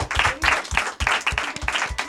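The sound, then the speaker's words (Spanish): A crowd applauds a singer at a school, dense overlapping claps at a lively, sustained level for a couple of seconds. “Sí, bueno, pues entonces te vamos a dar el aplauso otra vez porque pensábamos que nos ibas a cantar otra.”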